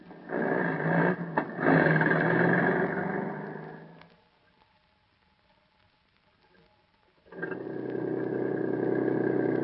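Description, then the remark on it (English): A steady car engine drones loudly, drops away into near silence for a few seconds, then starts up and runs again just as strongly. “You're past the place where we catch the water taxi.”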